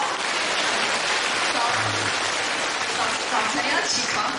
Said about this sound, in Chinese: 对， 鼓掌。